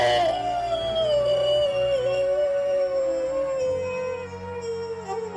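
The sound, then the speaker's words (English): A man standing with a woman's body in his arms howls at the moon: one long, loud wolf-like howl, a single sustained cry that slowly sinks in pitch over about five seconds, with no talking. “He stands up with her body in his arms and howls at the moon.”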